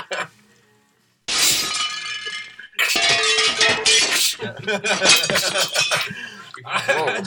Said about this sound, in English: Can you use like a broken glass sound every time I swear? Yeah, we can do that, man.